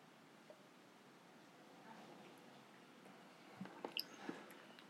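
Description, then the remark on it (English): Quiet sipping of tequila from a glass: a soft background hush, then a short cluster of small wet slurping clicks and lip sounds near the end, with no talking. “Cheers. Cheers. Sipping this, man.”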